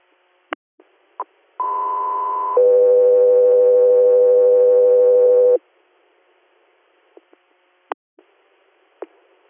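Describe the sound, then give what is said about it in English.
Radio dispatch alert tones: a one-second higher tone jumps straight into a steady, lower tone lasting about three seconds, loud and clear, with sharp radio clicks before and after, preceding a call to an air crew for a scene in Bradford County, Pennsylvania. “Stand by for tones.”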